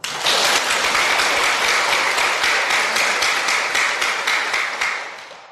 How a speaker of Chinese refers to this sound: 请鼓掌